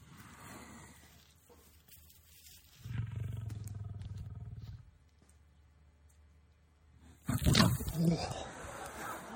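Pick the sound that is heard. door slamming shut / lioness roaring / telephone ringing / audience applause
lioness roaring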